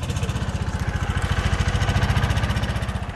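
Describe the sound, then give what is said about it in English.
A small tractor engine chugs steadily, its rapid, even pulsing loud and continuous with a slight rise in intensity as the tractor pulls up in the woods carrying a body in a blue plastic body bag for forensic research. “A small tractor pulls up carrying the first body inside a blue plastic body bag.”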